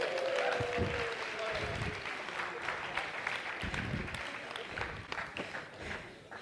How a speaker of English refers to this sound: Let's give them an applause.